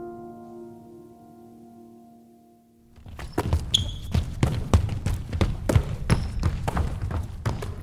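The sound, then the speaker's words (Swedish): A low, steady humming tone gives way to many basketballs bouncing on a hard floor at the Lundaspelen youth basketball tournament in Lund, a busy stream of sharp, loud thumps in overlapping, uneven rhythm with faint squeaks now and then. “Då möts ungdomar från hela världen för att dunka boll mot golv och i korgar.”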